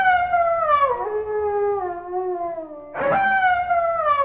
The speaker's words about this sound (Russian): Это можно. Песни петь я мастер. Сел волк на кочку, задрал голову и начал выть.